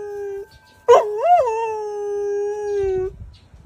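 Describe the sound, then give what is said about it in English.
A single long, tuneful howl from a golden retriever sitting next to wind chimes, singing along with them. It rises briefly, wavers, then holds a steady pitch for a few seconds before cutting off. Fairly loud, with no talking. “I was talking about this golden retriever singing with the wind chimes”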